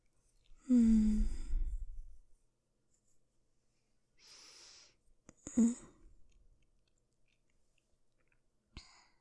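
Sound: heavy panting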